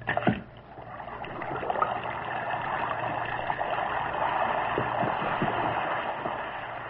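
An Alka-Seltzer tablet fizzes steadily in water, a dense crackling hiss of tiny bursting bubbles that holds an even level for several seconds over a faint low hum, with no voices.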